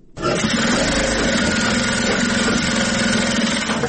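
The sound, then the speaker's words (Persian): Electric sewing machines set on special tables in a large hall run together as girls sew clothes with them, a steady, loud mechanical whir with a fast rattling hum that starts abruptly and holds throughout, with no one speaking. “ماشین های خیاطی برقی در یک سالون کلان بر میزهای مخصوص گذاشته شده و دختران توسط آن لباس می دیزند.”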